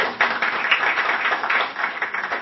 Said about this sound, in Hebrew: ומחיאת כפיים לכל מי שהגיע לכאן.